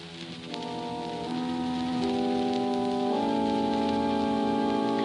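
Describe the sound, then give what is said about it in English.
Steady rain patters down continuously on a beach during a storm, blended with a swelling musical drone whose held tones step upward and grow louder over a few seconds. No one speaks. “Half smothered, fighting to stay afloat, borne shoreward by the driver of the tempest, we were tossed at last, one by one, up onto the rain-swept beach.”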